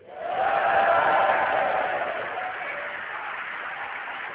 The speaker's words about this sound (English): So give her a huge cheer. One, two, three.